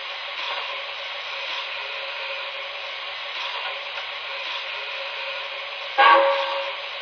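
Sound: train arriving at station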